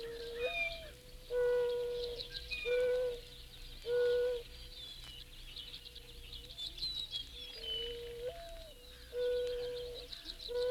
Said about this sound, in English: That was the cooing voice of a mourning dove in Florida. In Florida, the dove is classed as a migratory game bird.